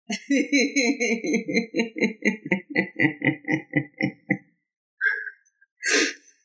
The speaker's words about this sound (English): What's with the echo, man? What echo?